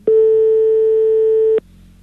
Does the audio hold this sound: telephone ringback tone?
yes